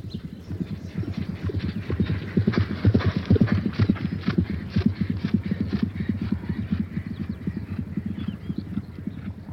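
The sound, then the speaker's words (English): Many horses' hooves clip-clop steadily on a hard surface, a dense overlapping rhythm of a group of British Army Lovett Scouts horses passing by, heading for the ferry to go off to war, fairly loud and continuous with no talking. “You know, these guys were heading off for the Lovett Scouts, and, you know, and they had these horses beautifully turned out, heading for the ferry to go off to war.”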